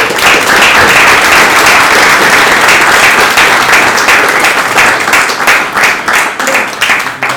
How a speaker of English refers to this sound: I think there is actually no better way of closing this very interesting Mrs. Seminar than listening to Professor Balcerovich. Please join me in welcoming a very warm applause.